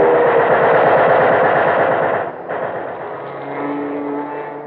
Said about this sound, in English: Look out, Captain. Fighter coming down to strafe us. Get down.